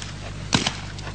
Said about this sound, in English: I draw, cock, level, fire this gun, hit what I'm shooting at in less than 0.02 seconds. Okay, two shots going to sound like one, and he's going to hit both of the balloons.